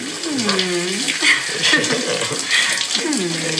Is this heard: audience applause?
no